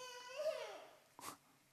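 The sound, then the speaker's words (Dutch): A toddler lets out a short, whiny wail that slides downward in pitch, followed by a brief breathy whimper, fairly faint. “Voor een peuter zijn die slechte tijden soms al heel snel aangebroken.”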